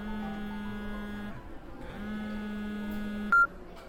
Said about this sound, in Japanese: 電話が鳴っていますよ。先に出たらどうですか？